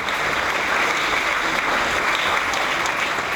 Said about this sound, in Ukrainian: Вата на українські вистави не ходить, і коли ми тільки-но почали просочуватися крізь темінь до двох перших рядів, ця зала раптом підвелася і вибухнула оплесками.